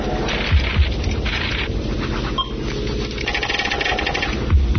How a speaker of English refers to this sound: All right, Control, I'm getting out of the chopper now.